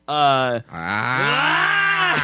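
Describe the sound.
A loud, guttural grunt from a voice, in two parts: a short, harsh burst, a brief break, then a longer, drawn-out groaning growl whose pitch bends slightly before ending.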